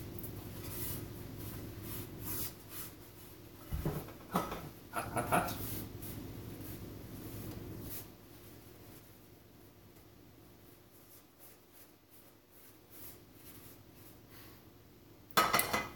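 A paper towel scrubs and rubs around inside a pan for several seconds, making a dry, scratchy swishing with a couple of light clanks of metal, then things go quiet.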